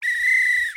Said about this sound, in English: The way it works is, you get sent a loose bag of whistles in the mail. And then you can make sounds like this.